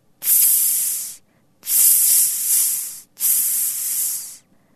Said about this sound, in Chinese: 这个人的尿淋在了火堆旁边的石头上，发出了呲呲呲的声音。